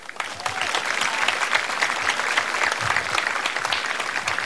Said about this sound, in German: Ihren Applaus.